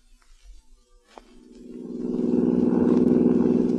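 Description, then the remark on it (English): A car engine hums low, then swells into a steady, rising drone as the car picks up speed on a highway, driving toward the northern part of the state; loud, with no voices. “We got in the car and started out for the northern part of the state.”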